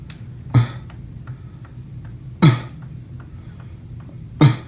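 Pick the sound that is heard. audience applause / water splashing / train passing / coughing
coughing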